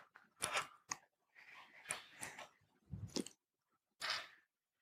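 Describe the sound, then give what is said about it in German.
Adhesive tape being applied up close, with several crackly, crinkling bursts and short sticky rips in an irregular rhythm, separated by brief pauses. No one speaks. “Klebeband ist drauf.”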